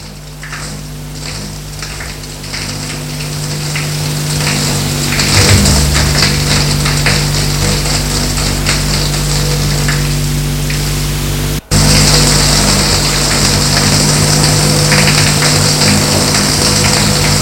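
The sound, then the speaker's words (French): Water runs steadily from a hot shower in a bathroom, a dense hissing spray with a low mechanical hum beneath it, briefly cutting out for an instant before continuing just as strongly. “Et va dans la salle de bain, prendre une douche.”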